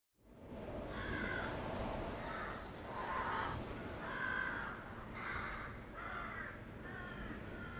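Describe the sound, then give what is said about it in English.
A raven at the Tower of London calls repeatedly, about seven harsh, croaking caws in a steady rhythm, loud over a constant outdoor background hiss. “One of the most famous myths about the Tower of London surrounds the ravens”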